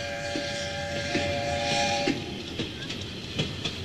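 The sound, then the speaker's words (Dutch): A small old train pulling three carriages from 1903, 1908 and 1917 rolls along the single-track Horen-Medemblik line at about 30 km per hour, with steady rumbling and rhythmic clacks of wheels over rail joints, a sustained whistle-like tone rising above the noise midway through. “Hoewel het treintje maar 30 km per uur haalt, is dat hard genoeg om het vee de stuipen op het bonte lijf te jagen.”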